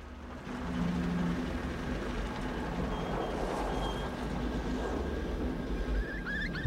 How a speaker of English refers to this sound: A car speeds towards the abandoned church.